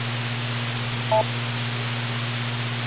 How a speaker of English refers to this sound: Yeah, I heard the beep. Yeah, I think it's coming from the high voltage supply, which causes the backlight to light.